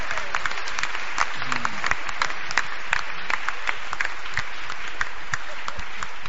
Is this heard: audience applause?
yes